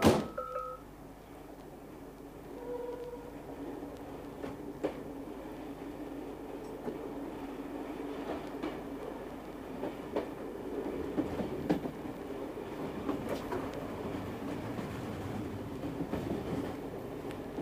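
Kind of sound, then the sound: vehicle, train riding on rails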